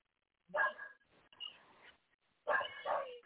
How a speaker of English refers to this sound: Because I hear a dog barking.